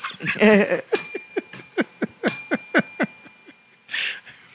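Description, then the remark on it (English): A hand bell rung rapidly, about ten bright, metallic clangs in an uneven rhythm with a lingering high ring, a brief voice-like sound at the start and a soft rustle at the end. “I'm going to get a Nerf gun up here, I think. Bell's not doing it anymore.”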